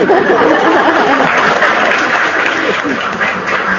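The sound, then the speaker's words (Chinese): An audience claps steadily and loudly for a few seconds, a dense, even wash of many hands with no pauses, and a faint murmur of voices mixed underneath. “怎么不鼓掌的啦？”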